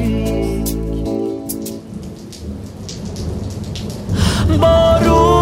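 Steady rain hisses throughout, backed by a low rumble of distant thunder, while sustained musical tones play at the start and swell again at the end.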